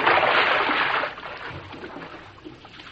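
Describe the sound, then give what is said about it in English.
Broad splashing and sloshing of water for about a second as someone in boots wades through shallow water to get what looks like the wreck of a small ship, then fading to softer trickling and lapping. “I'll wait out and get it. Let me do it, Tom. My boots is higher than yours. The water's kind of shallow.”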